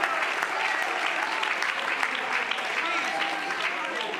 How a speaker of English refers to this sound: Oh, if you feel that way as you clap your hands, would you lift your voice and say, I'm going to buy me a field today.